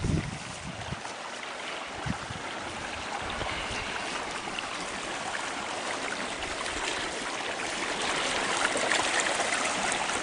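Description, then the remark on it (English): Steady rushing water from a flowing deep, narrow creek, a broad continuous hiss with soft gurgling, holding at an even level throughout with no voices. “The creek is very deep here. It's a bit narrow.”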